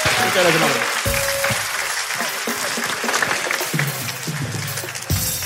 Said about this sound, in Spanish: ¡Un fuerte aplauso para mi amiga, por favor! Gracias.